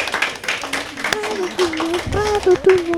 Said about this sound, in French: C'est une bonne réponse ! On peut les applaudir !